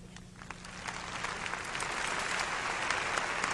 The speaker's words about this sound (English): Come on, give a little clap off him, would you?